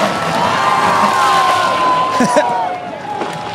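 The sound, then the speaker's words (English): A large crowd cheers and shouts continuously at the 2023 downhill race on steep, crooked Vermont Street as racers crash, with whoops and excited voices overlapping in a steady, loud roar, a few sharp bursts of yelling rising above the din. “Listen to some audio I will play from the 2023 event. I'll narrate a bit. This is so much joy to be heard. So many crashes.”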